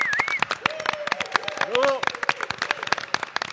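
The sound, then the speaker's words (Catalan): Dense, steady applause from a group during a radio programme, applauding Ràdio Vilafant and the technicians, with sharp overlapping claps filling the whole clip; brief vocal sounds and a short cheer rise over the clapping. “Un fort aplaudiment per ells.”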